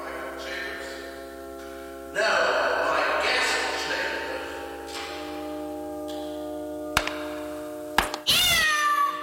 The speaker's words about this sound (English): I stepped on my cat's tail.